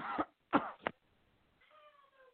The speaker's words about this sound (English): Oh, you're coughing. Oh, get away from me. I have Rona. get away.